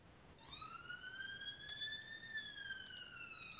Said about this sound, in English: That's a loud siren, if I can hear it. Yeah. Was that your end? Yeah, that was just going up the lane, about 30 yards from the house. Quite a busy junction, so they don't switch off the siren, and then they drive past about 20 miles an hour.